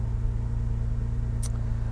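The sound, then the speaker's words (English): A steady, low car engine hum with a rhythmic pulsing rumble, heard from inside the car while driving with the sunroof open, with a brief faint high-pitched squeak partway through. “We've not driven this car for some time, so we're out for a little bit of car therapy.”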